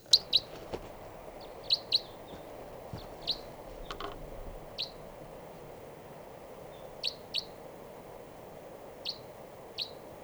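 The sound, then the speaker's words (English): Sharp, high kip calls from a type 3 crossbill, recorded at 6:22 a.m., ring out in short bursts, about a dozen notes spaced irregularly, some doubled, clear over a faint outdoor hiss. “and I thought I heard a type 3 grosbill coming around here.”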